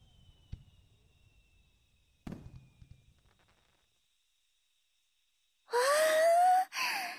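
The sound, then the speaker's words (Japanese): Two muffled fireworks bursts boom a couple of seconds apart at a fireworks display watched from a riverbank, each trailing off in a soft crackle, followed by quiet and then a voice's drawn-out exclamation. “わあ、花火始まったね。”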